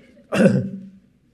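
A single short, rough cough or throat-clearing burst, moderately loud, fading quickly into quiet with no talking around it.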